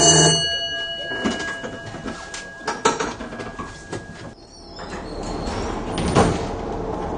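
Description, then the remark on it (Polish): A type 105N tram's warning bell rings with a steady, ringing tone for about four seconds, followed by clunks and the rumble of a sliding door. No one speaks. “Teraz sygnał dźwiękowy.”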